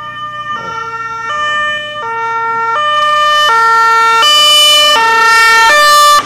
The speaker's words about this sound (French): C'est l'ambulance qui arrive ? Apparemment, c'est l'ambulance. Normalement, je crois, ils doivent arriver maintenant dans quelques minutes